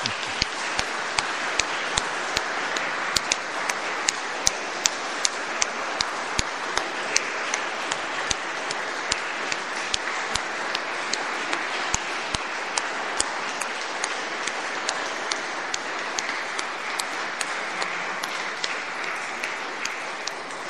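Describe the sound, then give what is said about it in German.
An audience applauds steadily for about twenty seconds, a dense wash of many hands clapping at once with sharper individual claps standing out, without any talking. “Und wir dürfen das jetzt, glaube ich, auch mit einem Applaus quittieren.”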